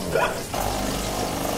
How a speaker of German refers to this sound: Da geht auch die Kaffeemaschine an.